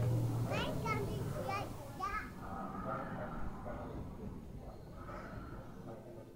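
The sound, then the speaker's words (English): A noisy indoor play area full of children, with high excited voices shrieking and chattering over a constant reverberant crowd din, loudest in the first couple of seconds. “And all of these children need a piece of me now. This is a very, very stimulating environment.”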